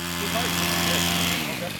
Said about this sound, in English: On this day, the sound of chainsaws echoes between towering trees. A 20-person crew is decked out in yellow hard hats and green cargo pants. They're clearing brush and cutting off low-hanging tree branches along White Rock Ridge.